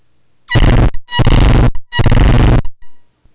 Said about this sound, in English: I was hoping that was louder in this room, but it wasn't. That was supposed to be an air horn on an 18-wheeler, and it was not. It wasn't much louder than the tinkling bell, as a matter of fact, so it sure ruined that illustration.